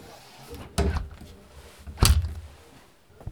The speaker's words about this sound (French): On va faire le test, on ferme la porte là, puisque c'est le studio d'enregistrement. Oui, alors normalement, il y a une double porte, parce que là, vous êtes avec une contrainte très forte. Double porte, tac.